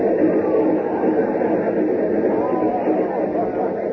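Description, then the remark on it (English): A train rumbles steadily as it gathers speed, its dense, continuous roar holding an even loudness throughout, with an indistinct murmur of voices mixed into the noise. “Now, as it gathers speed, two men dash down the track, followed by a mob of irate citizens.”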